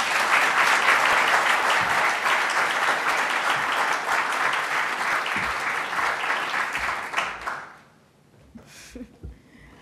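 Sustained audience applause welcoming a speaker, a dense wash of many hands clapping loudly for about seven seconds, then fading out abruptly into near quiet with a few faint stray sounds.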